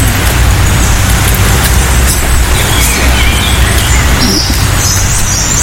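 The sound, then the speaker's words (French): A European robin overhead and a blackbird a little farther off sing outdoors in Normandy, their high thin phrases faint and partly masked by a steady low rumble of road traffic, with the clearest song near the end. “On a le rouge-gorge au-dessus de nous et le merle un petit peu plus loin.”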